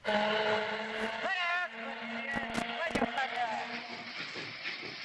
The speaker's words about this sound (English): Yes, a Mississippi riverboat putting in to New Orleans. And as the boat comes nearer the shore, headed towards the docks at the foot of Canal Street, we can hear the music of the city drifting across the water to greet us.